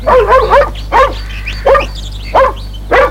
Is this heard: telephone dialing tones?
no